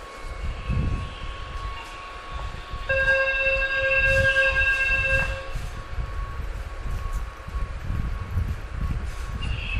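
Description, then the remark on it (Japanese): Steady low rumble of a Keihan electric train in motion, with a clear sustained tonal horn-like signal sounding for about two seconds midway through; no one speaks. “京阪電車に乗ってほとんど喋りませんでした。”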